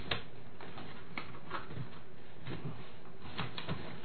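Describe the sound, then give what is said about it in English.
A computer keyboard is moved out of the way, giving a string of light plastic clatters and knocks at uneven intervals over a faint background hiss, with no one talking. “Let me get the keyboard out of the way.”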